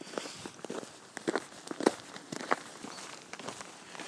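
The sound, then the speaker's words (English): Steady footsteps walking outdoors on the final few hundred metres back to the car at the Yorkshire Bridge Inn, a regular crunching tread of about two steps per second over soft background hiss, with no voices. “I'm just walking the final few 100 metres back to the car now at the Yorkshire Bridge Inn.”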